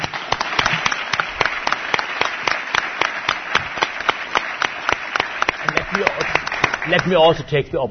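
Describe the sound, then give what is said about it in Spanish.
A crowd in Bilbao breaks into sustained applause for a guest speaker, many hands clapping in a dense, steady patter, with a voice starting to speak near the end. “Así que muchísimas gracias y le damos un aplauso, si os parece.”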